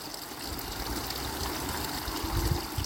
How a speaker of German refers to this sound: Lass dich mitnehmen vom Fluss des Wassers.